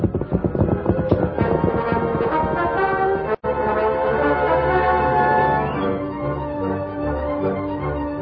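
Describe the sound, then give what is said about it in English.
Horses' hooves clip-clop in a quick, steady rhythm as riders set off on the horses Silver and Scout, loudest in the first few seconds, with sustained musical tones underneath and a brief cut to silence midway. “You and Tonto and I can move in closer alone. All right, let's go.”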